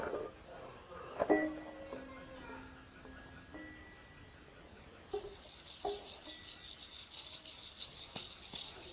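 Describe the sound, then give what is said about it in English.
A child shakes a rattle: a sharp burst of dry rattling early, a soft voice-like tone, then steady, hissy shaking with uneven jolts through the second half. “You're doing shake, shake, shake.”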